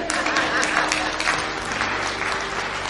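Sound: audience applause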